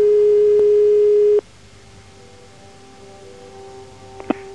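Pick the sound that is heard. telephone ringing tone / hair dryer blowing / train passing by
telephone ringing tone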